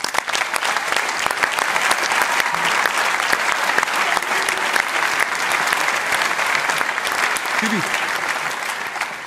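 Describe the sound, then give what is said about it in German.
Sustained audience applause for a man asked to stand up, a dense, steady wash of many hands clapping at even loudness throughout, with a brief faint vocal sound near the end. “Einen großen Applaus.”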